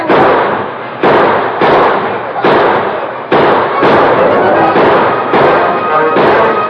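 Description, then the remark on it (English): A rapid exchange of gunshots between outlaws and a sheriff with his deputies, who return fire from behind sheltering rocks: about nine loud, sharp cracks fired in quick irregular succession, each trailing into a rumbling echo that barely fades before the next shot lands. “They fired as they rolled, but their bullets splattered harmlessly off rocks that sheltered the lawmen. And the sheriff and his deputies returned the fire.”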